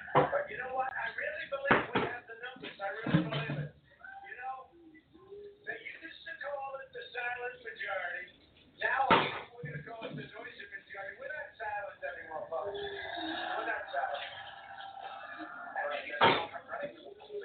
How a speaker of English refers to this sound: See if the door opens to the van.